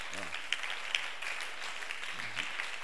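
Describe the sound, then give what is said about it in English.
A church camp audience applauds for themselves steadily, a dense wash of many hands clapping throughout, with a few sharper claps standing out and brief voices murmuring underneath at the start and near the end. “You see, you people, clap for yourselves.”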